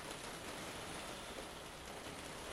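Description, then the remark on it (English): Steady rain falls outdoors in the UK on Sunday, 26 January 2014, a dense, even hiss spread across the whole range with no pauses or individual drops standing out, moderately quiet and continuous with no voices. “As you can probably hear, it's raining again here in the UK.”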